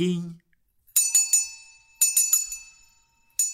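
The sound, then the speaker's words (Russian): A small, high-pitched, thin silver bell rings crisply in two quick bursts of three jingles, then once more, each ring shimmering briefly. A voice is heard for a moment just before the first ring. “Вдруг светлый луч скользнул по стене, и в то же мгновение прозвучал тонкий серебряный колокольчик.”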